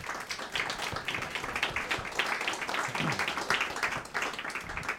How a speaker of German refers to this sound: Wie ihr seht, ist es ein sehr komplexes Panel, es ist eine Hybridveranstaltung und deswegen möchte ich diesmal auch gerne schon mal an die Technik und die Leute, die das möglich gemacht haben, einen Dank schicken und einen kleinen Applaus.